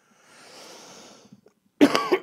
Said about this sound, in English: Oh, that cough had a little bit of a kick to it.